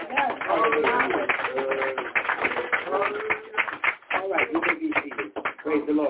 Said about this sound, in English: Give one a big clap.